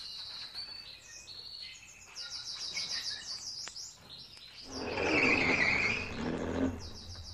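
A flock of many small birds flying overhead chirp and tweet at once in a busy, overlapping chatter, with a broader whooshing swell midway like a vehicle or wind passing beneath the calls.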